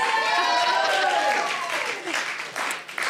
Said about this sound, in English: They're clapping you up. Okay, you can. If you're going to clap, like clap.